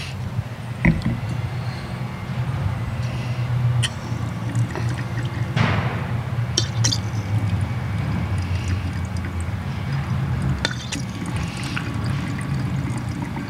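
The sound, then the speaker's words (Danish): Classico Gran Selezione wine from Tuscany pours into a glass, a steady liquid gurgle running for several seconds, with a few small clinks and no talking. “Nu får du lige et glas her.”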